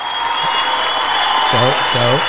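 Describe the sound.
Steady applause fills the whole moment, a dense wash of clapping, with a man's voice briefly speaking over it toward the end.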